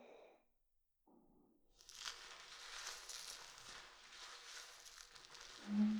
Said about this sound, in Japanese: はい、使うのは薬用入りのリンスインシャンプーです。少し泡立てなきゃいけないからまだつけないよ。泡立ててる間、両耳にその音を聞かせてあげるからね。